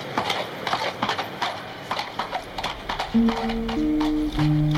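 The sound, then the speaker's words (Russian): Horses pulling a kibitka carriage gallop off after the coachman whistles, hooves clip-clopping in a quick, steady rhythm throughout, clear, with a sustained low tone joining in during the second half. “слуга вскочил на облучок, ямщик свистнул, и лошади поскакали.”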